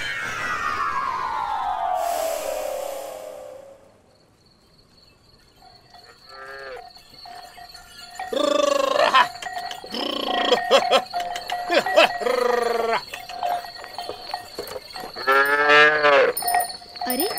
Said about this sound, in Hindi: मनोहर चाचा तो अपनी बैलगाड़ी लेकर घर वापस जा रहे हैं।